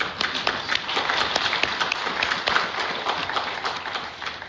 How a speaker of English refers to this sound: I just think we got to clap about that again.